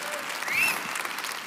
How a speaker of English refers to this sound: I know Pax isn't here, but you can just give him a hand clap, and like, he rocked it, you guys.